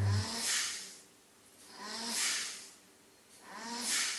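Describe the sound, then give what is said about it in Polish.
Three rhythmic, raspy breaths about every second and a half, each a loud airy hiss with a faint whistling wheeze, steady, from breathing drawn through a breathing tube that may have shifted. No talking. “Wiesz, co tak sapie?”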